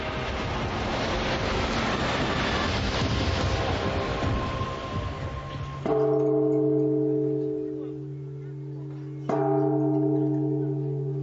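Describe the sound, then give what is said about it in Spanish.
At a temple dedicated to Meng Qianun, a large good-luck bell that pilgrims come to ring is struck twice, each ring sustaining a deep resonant hum that slowly fades, following several seconds of busy outdoor crowd noise. “Los peregrinos acuden a este lugar a tocar una campana que da buena suerte y rezar frente a su estatua.”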